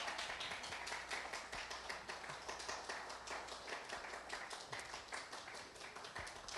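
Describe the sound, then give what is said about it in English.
An audience claps steadily throughout, a dense, continuous wash of many hands with bright, crackling texture and no pauses, sustained at an even loudness. “Y'all don't have to stop clapping. We can keep it going.”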